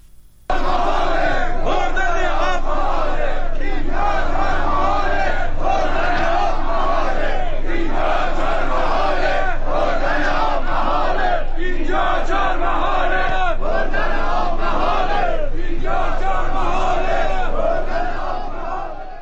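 A large crowd of protesters chants loudly in unison, voices rising and falling in repeated rhythmic bursts with no pauses, dense and sustained for the whole stretch.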